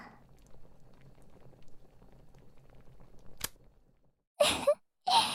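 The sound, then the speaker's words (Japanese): A pot bubbles softly on the stove for a few seconds, then a sharp click, a brief hush, and two loud hissing bursts. “あん、ところで、お鍋、大丈夫ですか？”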